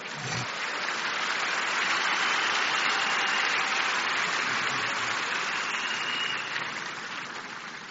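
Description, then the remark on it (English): A crowd of people clapping for the Lord at the Shiloh 2021 gathering, in a steady, dense wash of applause that holds at full strength for several seconds, then eases slightly toward the end, with no voices over it. “I can see somebody still trying to clap for the Lord.”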